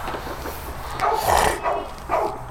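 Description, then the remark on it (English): Dogs bark in a few sharp, mid-pitched bursts, roughly three barks spaced unevenly over a steady background hiss, with no one talking. “Fucking dogs, man.”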